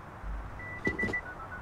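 door being opened

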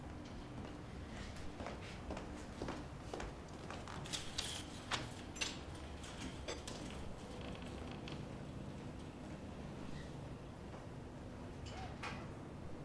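door being opened

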